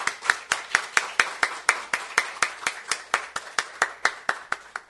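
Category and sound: crowd, audience clapping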